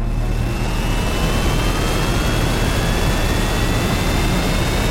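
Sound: spaceship engines roaring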